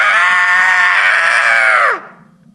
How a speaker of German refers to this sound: Der grässliche Schrei des alten Mannes kam so plötzlich und war so unmenschlich, dass ich fast die Besinnung verlor.